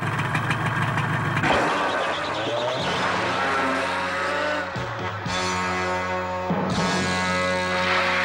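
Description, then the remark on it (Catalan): A motorcycle engine revs loudly, its pitch climbing and dropping in repeated surges, with a few sharp bursts of throttle, as a young woman sits on it atop a cliff in the desert; no voices. “Ho fa asseguda en una moto.”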